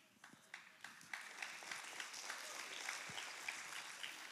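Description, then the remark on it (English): A crowd listening to a sermon breaks into applause, starting with a few scattered claps that quickly swell into steady, dense clapping across the whole span. “Claps for that.”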